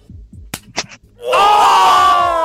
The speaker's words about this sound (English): Have you got your clap hands ready, Red? Yes, I have. Okay. All right. We can clap any time from now.